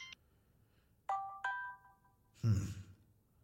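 A phone left out on a bench rings with an incoming call at 1 a.m.: two bright, ringing chime notes in quick succession that fade slowly, followed by a short muffled rustle or thump. No one speaks.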